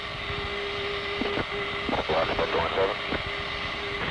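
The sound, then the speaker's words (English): A steady aircraft engine drone hums throughout with a constant tonal whine, while muffled radio-style voices break in briefly over the continuous engine noise. “November 2-0, you hear our engines?”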